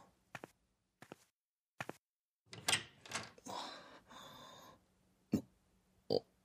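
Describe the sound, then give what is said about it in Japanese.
A few soft footsteps approach, then a door at the back of a room is handled and swung open with a brief creaking, rattling sound, revealing another room inside, followed by two sharp clicks, fairly quiet with no talking. “開いた。けど、外じゃない。部屋の中にもう一つの部屋。”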